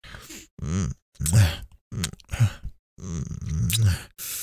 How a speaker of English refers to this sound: Sensitive little thing, panting just from this.